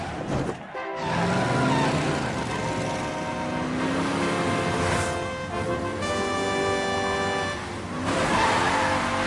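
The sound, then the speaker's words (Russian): A powerful stunt car engine revs loudly on television as a super cat racer prepares to jump over many cars, its pitch climbing in repeated surges over a steady roar, with a brief drop in noise near the start. “Супер-кот-огонщик собирается перелететь через множество автомобилей.”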